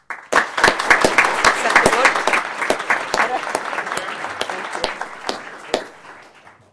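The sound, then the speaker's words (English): An audience applauds the members of the Bull Run Safety Committee for their contributions to employee safety, a dense wash of many hands clapping at once with sharp individual claps standing out, starting abruptly, holding steady, then gradually thinning and fading out. “No, stay and clap.”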